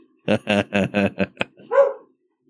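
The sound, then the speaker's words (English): A female dog barks loudly at things outside in a quick run of about six sharp, evenly spaced barks, then lets out a softer, higher whine or yelp at the end. No one talks. “I have the window open a crack in my bedroom, because it's one of the few front-facing windows, and I think she's standing up in my bed barking at things outside.”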